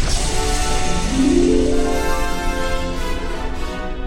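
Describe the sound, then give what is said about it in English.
A loud, sustained sci-fi explosion of an enemy TIE fighter shot down in Star Wars, a dense rumbling blast with a rising tonal whine swelling partway in. No voices. “Finn fired and the enemy ship exploded in a shower of sparks.”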